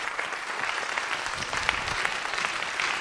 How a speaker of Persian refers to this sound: تشویقش کنیم. بله مرسی. مرسی قشنگ تشویقش کنیم.